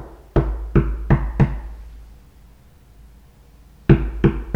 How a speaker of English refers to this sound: She knocked two or three times.